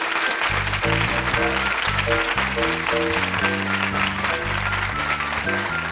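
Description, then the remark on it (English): A full crowd applauds steadily, a dense wash of clapping that stays loud and even throughout, with music playing underneath. “Round of applause for them, if you would.”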